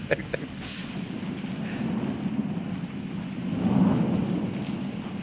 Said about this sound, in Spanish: Supongo que no te quejarás de la lluvia, ¿eh?